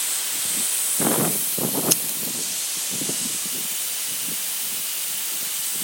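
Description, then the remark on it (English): A steady, broad hiss of water spraying from garden sprinklers that squirt a small child, with soft low murmurs and a brief sharp click partway through. “We'll give you a bath, but let's don't do a bath on the sprinklers. It's squirting you.”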